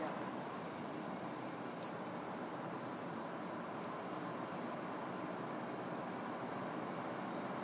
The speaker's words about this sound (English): Presumably that was a tram on the left, was it? That I heard. Oh. Just wondered, was it a tram on the left that I heard a moment ago?